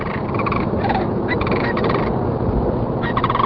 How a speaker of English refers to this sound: On the Naturalist Journal, Texas is the winter host to the largest concentration of cranes in the world. And as the days grow shorter, the high plains echo with the calls of sandhill cranes.